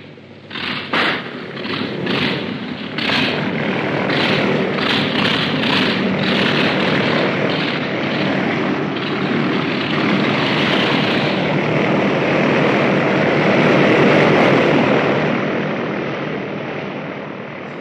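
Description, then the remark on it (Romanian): A propeller airplane engine coughs and sputters to life with a few uneven bursts, then settles into a loud, steady roar that swells as it revs up to 2000 rpm before easing slightly. “Scoateți calele de sub roți! Contact!”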